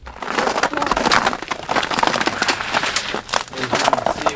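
Dense, continuous crunching and crackling of ice breaking under steady footsteps outside a modest robin's-egg-blue home on Paser Street in Pontiac, with sharp bright snaps layered over a rough gritty texture and no voices.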